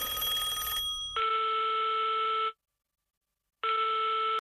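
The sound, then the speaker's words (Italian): A telephone rings with two long, steady electronic trills separated by a pause of about a second, following a brief burst of rough noise at the start. The ringing is loud and unaccompanied by voices. “Non mi aspettavo la chiamata, senti.”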